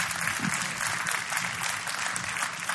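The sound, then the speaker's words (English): An audience at a church service claps together to praise the Lord in a dense, steady burst of applause that holds at a fairly even loudness for a few seconds, with no voices standing out above it. “Give the Lord a big clap.”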